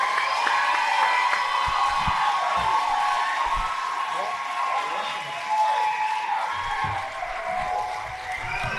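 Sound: crowd clapping and cheering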